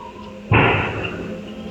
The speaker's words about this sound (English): At 7:39 and 43 seconds, we hear a gunshot go off in the video.